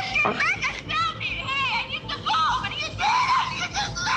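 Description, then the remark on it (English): A woman screams loudly and shrilly in a series of high-pitched, wavering shrieks that run almost without pause, piercing; a real scream from a scene of the reality show 90 Day Fiancé. “made a video clarifying some of her scenes and admitted that her demon scream was real.”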